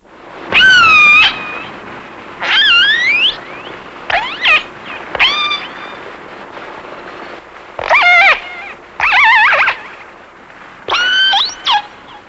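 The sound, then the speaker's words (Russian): Orca calls captured underwater by a hydrophone: about eight loud, whistly, harmonic squeals with swooping pitch, arriving in irregular bursts over a steady hiss of water noise, with no talking. “А вот услышанный подводным микрофоном голос кита касатки.”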